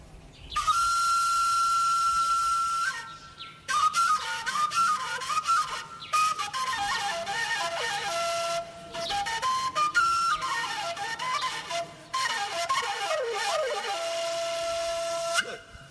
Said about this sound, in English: Bon, je vais vous présenter, on appelle ça le wombere. C'est une flûte à pentatonique, quatre trous. C'est pour les bergers, parce que moi, je suis un berger.